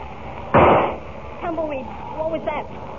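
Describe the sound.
A single loud gunshot cracks out and fades quickly, then after a brief pause a man's voice speaks a few words.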